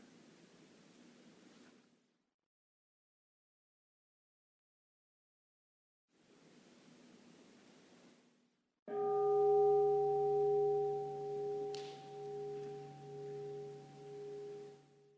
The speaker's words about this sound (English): When you hear the sound of the bell, again, just listening to that, receiving the sound.